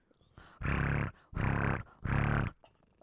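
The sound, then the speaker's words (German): A cat, one of many cats at a family home, purring right into the microphone: three loud, coarse rumbling pulses, each about half a second long, separated by brief quiet breaths, with no talking. “Oh, halt dir mal das Mikro hin, weil ich glaube, ich höre die schnurren.”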